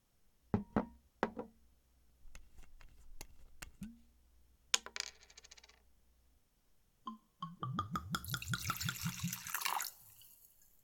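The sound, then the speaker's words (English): Several sharp clinks of ice dropping into a glass, then after a brief pause whiskey glugs in, its pitch rising steadily as the glass fills. Fairly loud, with no talking. “I've got some whiskey, if that's fine with you. Yeah? Do you want ice in it?”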